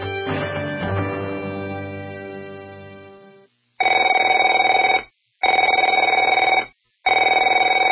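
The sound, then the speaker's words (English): A telephone bell rings loudly in three long, rattling bursts separated by brief silences, after a sustained tone that fades away at the start. No one speaks. “Afraid to answer it?”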